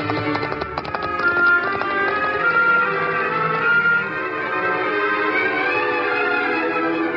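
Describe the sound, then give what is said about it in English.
Quick clip-clopping hoofbeats ring out at the start from the horse Scout, joined by his high, wavering whinny as he tosses his mane and sets out over his own back trail, followed by the Lone Ranger. A steady tonal drone carries on underneath as the hooves trot off. “Scout tossed his mane, whinnied, and set out over his own back trail.”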